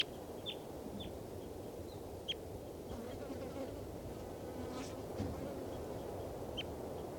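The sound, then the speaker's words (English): A captive bird, bird number two (387), a female, gives a handful of short, high chirps at irregular intervals, faint over a steady low buzzing hum that runs throughout. “This is bird number two.”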